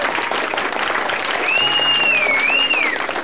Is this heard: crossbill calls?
no